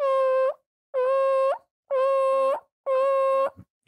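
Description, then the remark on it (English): A voice imitates a dump truck backing up with four loud, evenly spaced, steady high-pitched beeps, each about half a second long, like a reversing alarm, with no other talking. “Let's hear your best dump truck.”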